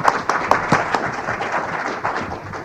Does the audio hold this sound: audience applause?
yes